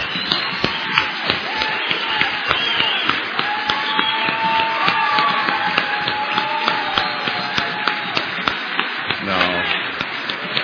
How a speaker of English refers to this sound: Now, wait a minute. Now, hold on. I want you to double it because she's applauding for her husband. This is for both of them.